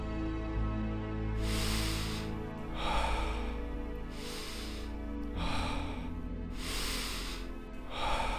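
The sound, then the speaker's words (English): Deep, airy breaths drawn in and pushed out in a steady rhythm during a peaceful breathing exercise, about seven in a row over a soft, continuous low drone. “We're starting with peaceful breathing in 3, 2, 1.”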